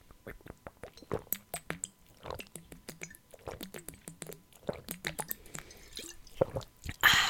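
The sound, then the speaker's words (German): Wet mouth sounds of someone sipping water: a rapid series of soft clicks, slurps and small swallows, fairly quiet and irregular, with no speech. “Gut, ach so, ich habe noch immer keinen Schluck Wasser getrunken wegen der Nuss, aber naja, Prost.”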